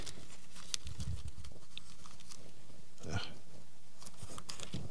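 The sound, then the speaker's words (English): Thin Bible pages rustle and crinkle as someone flips through them to find Exodus chapter 11, a run of soft, uneven turns and brushing sounds with no talking. “Can't get my pages apart.”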